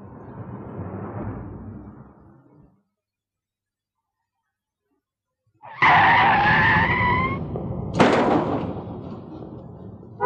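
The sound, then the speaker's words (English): A car engine rumbles, then falls silent before a loud, shrill tire screech erupts, ending in a sharp, heavy crash of impact as the noise trails off; the car was going too fast. “You shouldn't have been going so fast.”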